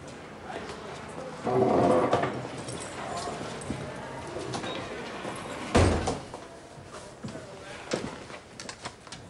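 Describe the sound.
A door creaks and thumps as it's held open, followed by a few steady footsteps as a woman struts into the room past the person holding the door, with a sharp knock of movement midway and faint indistinct voices.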